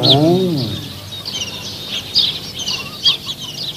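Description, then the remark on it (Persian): A hen gives a brief low cluck, then her five newly hatched chicks keep up a steady run of high, thin peeps, overlapping and irregular. “دیدین؟ این مرغ پنج قلو زاییده.”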